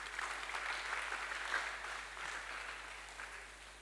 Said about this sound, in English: It's Jesus that matters. Clap your hands for Jesus there.